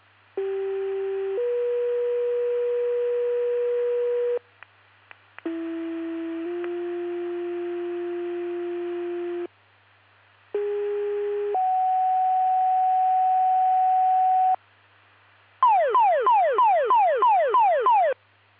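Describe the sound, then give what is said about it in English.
Three loud sets of steady two-tone fire department pager test tones for the LaSalle, Peru, Utica and Oglesby fire departments, each a long held pitch stepping to another, followed by a rapid descending warble siren-like tone, with no talking. “Please disregard the tones, reset your pagers in the test.”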